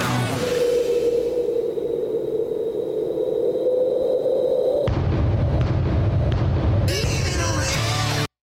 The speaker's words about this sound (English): There was the bass drum. Yeah, and beautifully recorded, I might add. And that reverb they have on it, that's not always the easiest to achieve because you have to shave off a little bit of the attack.